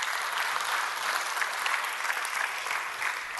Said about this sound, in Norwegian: Gi henne en stor applaus.